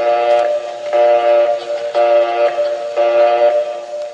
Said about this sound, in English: If the line is busy, you'll hear this busy signal.